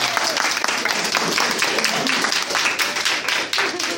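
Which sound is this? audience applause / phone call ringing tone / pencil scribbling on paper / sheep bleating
audience applause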